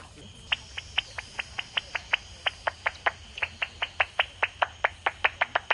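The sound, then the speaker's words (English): Echolocation clicks of endangered Indiana bats, recorded at a refuge near Indianapolis International Airport and made audible by an ultrasonic detector: a steady train of about two dozen sharp, dry ticks that speeds up slightly toward the end, over a low hiss. “to a refuge near the Indianapolis International Airport to listen, with the aid of special ultrasonic equipment, to the sounds of our endangered Indiana bats.”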